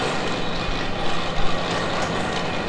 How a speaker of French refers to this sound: Les machines, elles ont en moyenne autour de 80 ans, quoi, à peu près. Cette grosse machine-là, c'est ce qu'on appelle la grande carde ou la carde, par opposition à l'autre, qui est la petite carde.